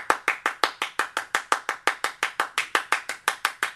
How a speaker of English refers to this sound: Which is a lot of times, which was they used other percussional instruments, right? They used obviously the clap, you know?